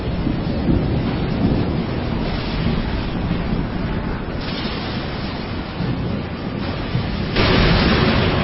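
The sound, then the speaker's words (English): A furious squall roars without pause, wind and crashing waves breaking over a boat and nearly swamping it, blending into a loud, rumbling wash of noise that swells harder near the end. No one speaks. “A furious squall came up, and the waves broke over the boat so that it was nearly swamped.”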